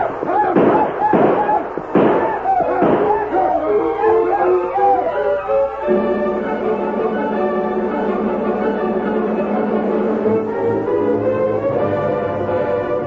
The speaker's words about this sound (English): Black leader broke his stride when he heard the shots and yelling ahead of him.